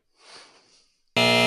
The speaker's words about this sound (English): Like, I could see somebody saying, like, oh, no, buzzer sound bothers me because I'm not a fucking loser, all right? When that buzzer sounds, that means that there's a chance I might have lost, and I'm a winner.